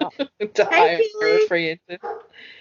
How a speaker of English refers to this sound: Yeah. I don't know what he's barking at tonight.